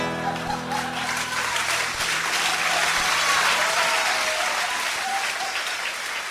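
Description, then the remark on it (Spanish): An audience breaks into sustained applause as a song ends, a dense wash of clapping holding steady and loud for several seconds, with a faint last musical tone fading underneath at the start. “Todo un retrato de época muy festejado por la audiencia.”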